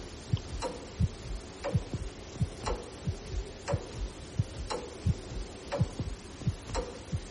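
Steady, heavy ticking of the tower clock mechanism in the church tower of Vor Frelsers Kirke in Copenhagen, heard from the tower stairs below it, roughly one sharp click per second with duller thuds in between, over a low hum. No voices.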